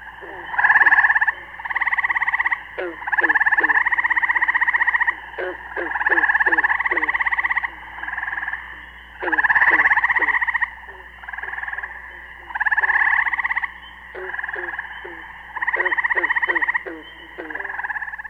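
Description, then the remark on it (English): A tetraploid gray tree frog (Hyla versicolor) gives repeated short, resonant, bird-like trills, several bursts of about a second each separated by brief pauses, loud against a quiet evening background with a low steady hum. “singing throughout the spring and well into summer, the short, resonating, bird-like trill of the tetraploid gray tree frog, Hyla versicolor, is a familiar sound to anyone who ventures into the countryside in the evening.”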